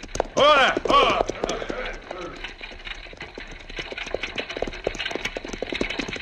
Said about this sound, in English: Here they come now on the buckboard.